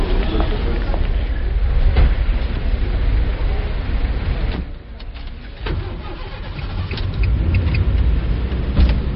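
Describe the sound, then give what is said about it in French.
Steady engine and road rumble heard from inside an open-top convertible car driving from the train station to CERN on a sunny day, with broad wind-like noise filling the background and a brief dip in loudness midway. “Et là, on est dans votre voiture. Vous avez une voiture décapotable et décapotée parce qu'il fait beau aujourd'hui.”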